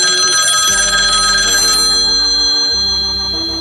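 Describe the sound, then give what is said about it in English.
A telephone at the Bangor Inn rings in a Men from Maine comedy sketch on 105.7 WROR's Lorne and Wally Show, with a bright, rapidly trilling bell for a couple of seconds, then stops, while steady low tones continue underneath. No one speaks. “As today's action-packed adventure begins, Lem is calling the Bangor Inn to inquire about getting a room when we hear...”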